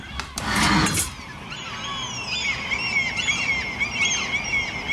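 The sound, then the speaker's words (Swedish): Gulls screech in a harsh burst at the start, then several overlapping, wavering high cries carry on steadily over a low background hum, with no one speaking. Heard outside a bedroom window at 6:15 in the morning, during the gulls' breeding season. “Det är hemskt, det här är ju då fiskmåsarnas häckningsperiod nu.”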